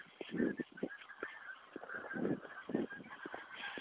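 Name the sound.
geese honking in flight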